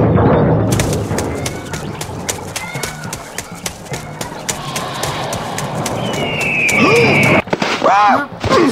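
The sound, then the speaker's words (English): A video game bird in a barrel coos and warbles in short wavering calls near the end, layered over busy clattering and thumping game sound effects. “There was a bird in the barrel.”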